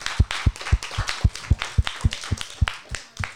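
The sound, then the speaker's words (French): An audience claps in a steady, rhythmic beat, about four sharp claps per second with a dull thump under each one, for a few seconds with no talking, applauding the participants of a video game creation tournament. “On peut encore les applaudir.”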